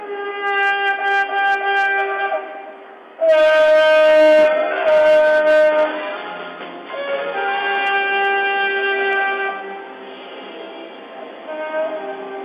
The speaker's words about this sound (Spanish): Sonido de la bocina es como un saludo a Taita Dios, dicen ellos, ¿no? Está rindiendo honores, luego tocaré el pingullo.